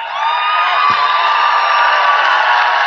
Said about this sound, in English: This crowd is just going wild.